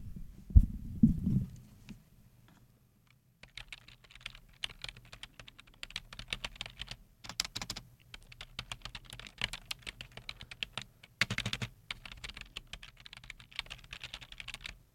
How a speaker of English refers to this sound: my tried and true that I always go back to is just simple tapping. So here we have some. Keyboard tapping.